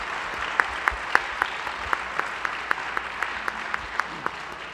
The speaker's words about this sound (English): Thank you, and how about a round of applause for a fascinating conversation?